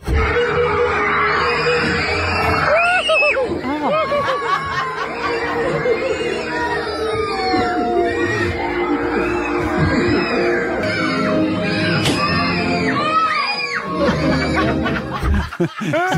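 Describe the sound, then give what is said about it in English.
A loud, continuous din of children screaming and crying at a birthday party, many high-pitched voices overlapping in shrieks and wails throughout, with chattering and laughter mixed in. “So you can hear obvious screams, and then you can hear a bit of crying.”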